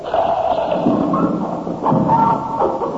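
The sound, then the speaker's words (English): A trapdoor mechanism drops with a heavy wooden thud as a lever is pulled to test the trap, followed by a second knock and a low rumbling clatter that fills the three seconds. No one speaks. “We'll go and test the trap again. There. Now, pull the lever.”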